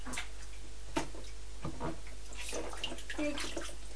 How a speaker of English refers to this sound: Oh, oh dear, Big Splash. It's all right. We'll just get the cloth again.